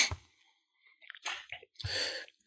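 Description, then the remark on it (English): Someone chews food, producing a few irregular, moist mouth noises separated by quiet pauses, with no talking. “Sorry, I'm chewing.”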